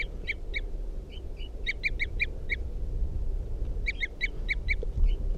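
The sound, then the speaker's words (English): A wild bird, number 305, perched at the top of a cedar at a campsite and responding to decoys, gives short, high, tooting calls in three quick bursts of four to six notes each, clear above a steady low rumble, with no talking. “Toops of the wild bird. responding to the decoys.”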